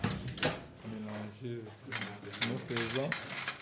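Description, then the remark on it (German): Surgical clamps and scissors clink and rattle as an operating-room nurse sorts them in an operating theatre, a series of bright metallic clatters running beneath a person talking. “Die Klemmen und Scheren hier vor mir sortiert gerade eine OP-Schwester.”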